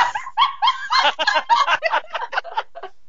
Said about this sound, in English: Literally just saw the dog with a boot. Did somebody throw him at you? He just jumped off the bed.